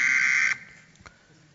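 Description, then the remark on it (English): A loud, harsh, alarm-like buzzing phone ringtone blares steadily for about half a second and then cuts off abruptly, leaving faint room noise and a brief click. “That's one of my ringtones.”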